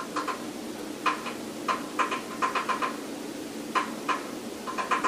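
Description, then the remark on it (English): Light, hollow taps of a finger on a door come in uneven bursts of two or three, pausing between clusters. The sound is fairly quiet, with no voices. “it sounds like a chubby Nolan finger tapping on the door”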